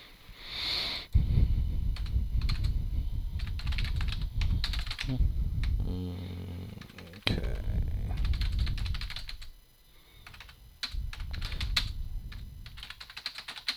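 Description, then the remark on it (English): Rapid, irregular clicking of fingers typing on a computer keyboard, fairly loud, with brief pauses between bursts of keystrokes and no one speaking. “Having trouble typing all those words.”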